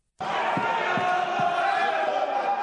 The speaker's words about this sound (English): Ghanshyam Tiwari, who was in the chair, tried to run the question hour, but the opposition members continued sloganeering. Amid the noisy scenes, the chair adjourned the house for the day to meet on the 11th of August.